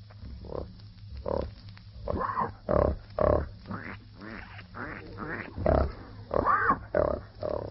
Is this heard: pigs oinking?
yes